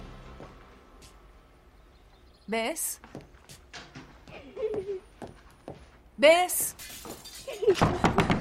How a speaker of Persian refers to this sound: صدای شکستن شیشه اومد